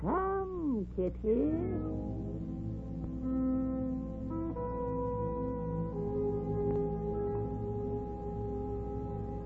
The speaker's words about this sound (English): I never saw a more pitiful kitten.